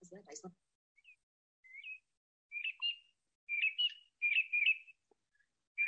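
Small birds chirping in a quick series of bright, high tweets that grow louder and denser, with short pauses between bursts; a brief voice sounds at the very start.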